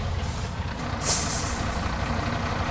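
Two fire engines arrive at a fire. A heavy fire engine rumbles low and steady, and about a second in a sharp burst of air-brake hiss rises, then fades back into the idling engine. No voices.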